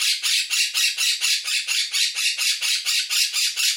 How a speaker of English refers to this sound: I don't know what has got into my parrot. He's not normally this loud. Whether we're due in for a storm or... I don't know. He's not normally like this. He's not normally this raucous.